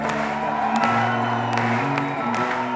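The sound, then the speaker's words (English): A crowd at an evening show in Paris applauds and cheers for Sal Payam in a steady, loud wash of clapping and voices, with a few sharper whoops or claps standing out over a sustained hum of noise. “Big round of applause to Sal Payam for having us all here tonight.”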